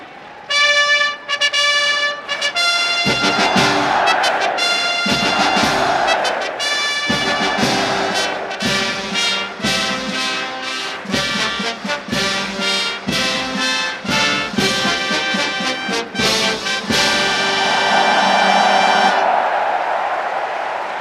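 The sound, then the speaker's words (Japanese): A loud G1 brass fanfare plays at Tokyo Racecourse before the 38th Japan Cup horse race, bright trumpet notes in short stabbing phrases and sustained chords, building to a long held final chord with a swelling roar from over 92,000 fans beneath. “G1 ファンファーレの音色そして3時現在で9万2000人を超えるファンの大きな歓声が秋の府中の空に吸い込まれていきました。”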